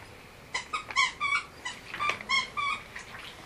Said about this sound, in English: My dog is laying there eating, chewing on a wooby. That's the squeaking you did.